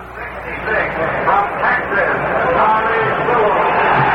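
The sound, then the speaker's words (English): A huge crowd of over 56,000 at Briggs Stadium roars steadily, a dense wash of thousands of voices blending into continuous noise at a fairly loud, even level, sounding slightly muffled and band-limited like an old broadcast. “We come back on the air here, direct from Briggs Stadium, with the roar in the background of this crowd of over 56,000”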